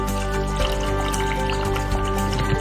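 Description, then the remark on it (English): About a cup and a half of liquid from a water mixture pours steadily into a blender for a few seconds, a continuous splashing trickle with faint drips, over a low steady hum in the background. “And then we're going to add around about a cup and a half of the mixture from the water.”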